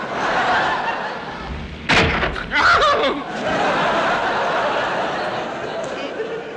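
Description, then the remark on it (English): A single sharp knock of a bottle clouting General von Gutern on the head lands mid-clip, loud, followed by snickering laughter over a steady noisy background. “One good clout on von Guten's big steaming nut sufficed.”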